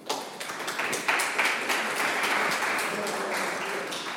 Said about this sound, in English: So please give a big round of applause for him, and we'll begin with the session.